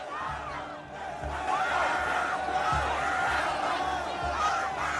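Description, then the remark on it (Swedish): A dense, loud concert crowd roars continuously, many voices shouting and screaming for help over a low rumbling, thumping background, less than ten minutes into the show, as fans pushed from behind toward the front of the stage struggle to stand. “Mindre än 10 minuter in i spelningen börjar delar av publiken ropa på hjälp.”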